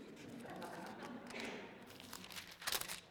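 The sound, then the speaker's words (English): Soft, papery rustling of thin Bible pages being turned to the book of Luke, chapter 24, by someone with a bum thumb, with a few quiet crinkles and a brief louder flick near the end, with no talking. “You know, it's hard turning pages in a Bible with a bum thumb.”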